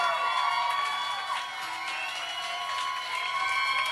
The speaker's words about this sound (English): Why don't you clap more? Because maybe everyone else in the room will wonder what's going on stage and wonder if they want to pay attention. So clap more. I think you need to clap a little louder and a little longer. Let's really get their attention.